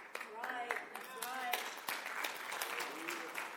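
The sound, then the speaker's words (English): Brief, scattered audience applause, a handful of uneven claps spread over a few seconds, with people's voices murmuring underneath. The whole thing is fairly quiet and thin rather than a full ovation. “Thank you for the resounding round of applause.”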